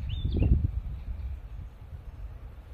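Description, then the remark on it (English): A single short owl call, low and soft, sounds early on over a steady low outdoor rumble, with a faint high chirp just before it. Nobody speaks. “You hear the owl?”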